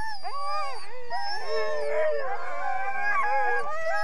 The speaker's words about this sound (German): Eine Hundeschlittenfahrt mit Huskies steht auf dem Plan